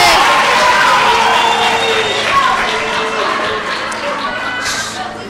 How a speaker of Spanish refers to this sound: Un claro ganador, un fuerte aplauso para el ganador del primer challenge.